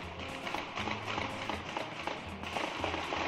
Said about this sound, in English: At 1 a.m., a shootout in neighboring Watertown, Massachusetts, killing one of the two suspects. Here, the sound of gunfire in the night.